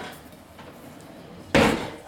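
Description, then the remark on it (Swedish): After a quiet stretch, a single loud clatter rings out as a pot lid, larger than the frying pan, is pulled from a kitchen cupboard, its metallic rattle fading over half a second. “Och då har jag ett lock som är större än vad stekjärnet är.”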